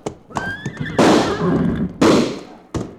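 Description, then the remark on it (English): A horse whinnies briefly, then two loud gunshots crack out about a second apart, each with a long echoing tail, followed by a sharper third shot; a shot knocks a gun out of a man's hand. “You shot his gun right out of his hand.”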